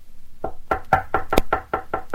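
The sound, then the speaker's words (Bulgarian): About nine sharp knocks by Doctor Gaspar Arneri on the door of Uncle Prisak's theatre, in a steady, fairly quick rhythm, each a hollow, solid rap that stops abruptly. No voices are heard. “Кой чука?”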